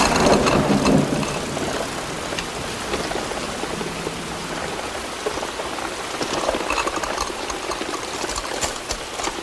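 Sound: rain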